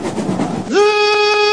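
A train rumbles and clatters along the rails, then a loud, steady horn blast cuts in and holds to the end. No voices.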